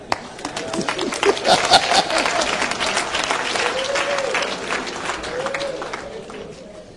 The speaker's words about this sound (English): Clap.